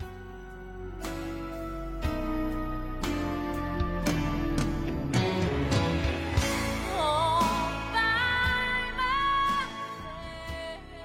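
A theme song for the Title Ball Show radio program across Wisconsin plays at steady, full volume for several seconds, with sustained chords, sharp rhythmic hits and a wavering melody line near the end, and no talking over it.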